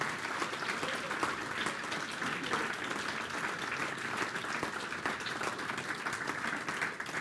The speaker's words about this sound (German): So, jetzt nochmal dicken Applaus.